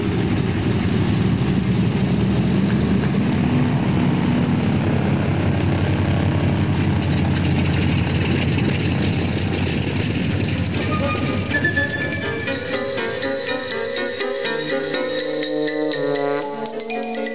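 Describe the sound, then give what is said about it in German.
A loud, continuous airplane engine roars, revving steadily as the plane takes off with two people who have boarded it, then gives way to music in the last few seconds. “in das Flugzeug gestiegen und mit ihm davongeflogen waren”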